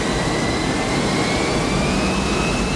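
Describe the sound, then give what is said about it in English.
A jet plane taxiing out onto the runway, its engines holding a steady, loud roar with a high whine that slowly climbs in pitch over a low rumble. No voices. “The plane taxis out onto the runway.”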